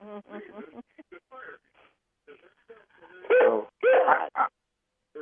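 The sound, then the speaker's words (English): A caller's dog yelps and barks over a thin, tinny phone line, a few loud pitched bursts following quieter, muffled murmuring sounds. “Is that your dog? Yeah. That's your dog”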